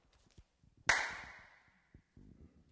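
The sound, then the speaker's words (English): One sharp, loud clap of hands, shown as an example of the first drum, rings out and fades over about half a second, with a faint tonal shimmer in its tail. Soft scattered knocks and rustles come before and after. “Hands clapping, right?”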